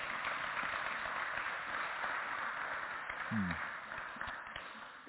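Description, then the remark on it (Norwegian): A crowd applauds steadily for about five seconds, a dense, even wash of many hands clapping that stays loud throughout and eases only slightly at the end. “Så fint, kan vi ikke gi en skikkelig god applaus?”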